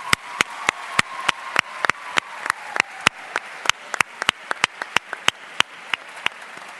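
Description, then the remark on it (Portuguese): An audience at the national session of the Youth Parliament for basic education students applauds a teacher with sharp, distinct claps in a fairly steady, quick rhythm for several seconds, moderately loud and without any talking over it. “Muito obrigado e um aplauso para ela, por favor.”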